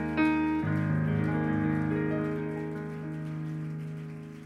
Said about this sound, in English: Would you clap your hands unto the Lord one more time?